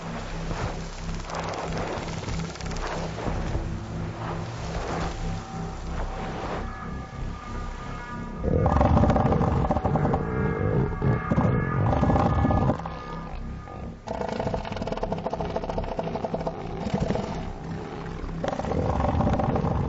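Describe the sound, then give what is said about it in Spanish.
Deep, rough warning growls from male elephant seals on a beach, directed at competing males, rumble almost continuously, swelling into a louder, harsher bout midway before easing back to steady guttural grumbling; no one speaks. “Normalmente los gruñidos de advertencia echan atrás a los competidores.”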